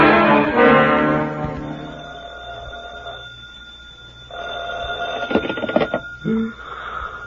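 A telephone bell rings in loud, rapid bursts, with a sustained horn-like tone at the start and a harsher clattering ring later. Nobody speaks.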